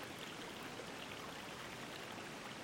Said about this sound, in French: Juste les murmures du vent. Et au loin, celui d'un ruisseau.